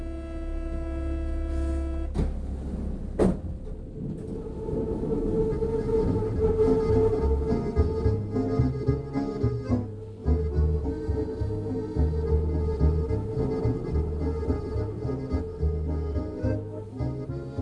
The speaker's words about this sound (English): As I left Choisy on the metro, some buskers started playing traditional musette. This mixture of guitar and accordion is still very much a feature of today's Parisian music.